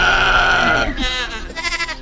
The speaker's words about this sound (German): Aus dem Hintergrund hört man eine Ziege, die garantiert nicht Zieglinde ist.